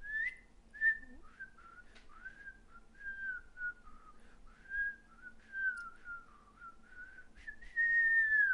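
Someone whistles a slow, wandering melody, the pitch sliding smoothly between notes for several seconds, ending on a louder sustained note, with no talking.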